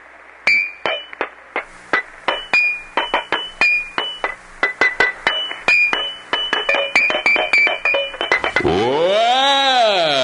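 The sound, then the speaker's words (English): Water-filled glass Coca-Cola bottles are struck in a quick, bright melody of ringing clinks at different pitches, then a loud swooping, wavering tone rises and falls at the end. “I'm going to do my Coca-Cola water-filled bottle thing.”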